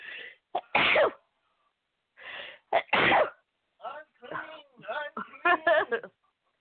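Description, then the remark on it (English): Two loud sneezes, each preceded by a short breathy build-up, with a pause between them, followed by a string of brief voiced vocal noises. “I'm going to sneeze and people are going to think I've got a freaking virus now.”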